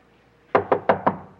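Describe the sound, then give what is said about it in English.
Four firm knocks rap on a wooden front door in a quick, even sequence, clear against an otherwise quiet background. “Get the door.”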